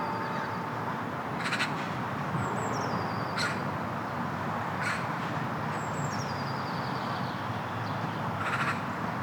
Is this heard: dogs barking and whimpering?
no